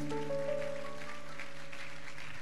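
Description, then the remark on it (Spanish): A crowd claps steadily in applause for Christ during a prayer service, a dense, crackling wash of applause that continues throughout, with sustained keyboard or organ tones held underneath. “Demos un fuerte aplauso a Cristo.”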